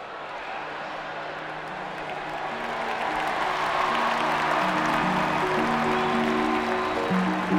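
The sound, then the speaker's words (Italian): A large Olympic stadium crowd claps in a steady rhythm at high jumper Tamberi's request as he starts his run-up toward a bar set at 2.41 metres, amid a dense wash of cheering voices, the noise swelling gradually louder over several seconds. “Chiedi al pubblico di battere le mani mentre prendi la rincorsa, come sempre.”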